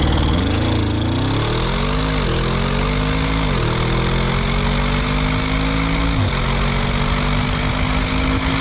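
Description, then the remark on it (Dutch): An Audi RS6 car engine accelerates hard. Its droning note climbs steadily and drops briefly at several gear changes, loud and continuous, with no one talking. “Hier heb ik toch nog steeds een beetje een tractorgevoel bij. Of dat je je grasmaaier aan hebt gezet of zo.”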